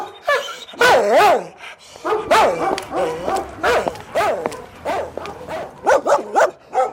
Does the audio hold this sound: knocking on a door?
no